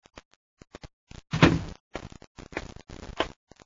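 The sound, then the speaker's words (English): A door to Shardu's office in his headquarters in the capital city of Dargida opens: a few light latch clicks, then a louder creaking swing with rattling handle noise, ending in scattered clunks. No one speaks. “As the door opens, he turns.”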